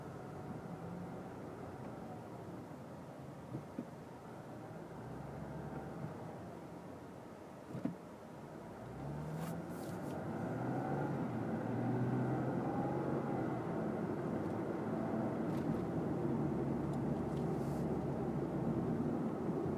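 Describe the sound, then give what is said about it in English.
Steady low rumble of road noise from inside a moving car, a continuous engine and tire drone that swells slightly louder partway through, with no one talking. “Kind of cool because I have the map screen up on my car and it just thinks I'm driving in the middle of nothing.”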